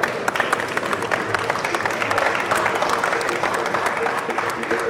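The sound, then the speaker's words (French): An audience applauds a demonstration by the Fédération de formation de bâtons de défense et tactiques d'intervention et applications professionnelles, a dense steady wash of many hands clapping at even loudness for the whole stretch, with a faint murmur of voices mixed in. “Merci à tous, vous avez le droit de les applaudir.”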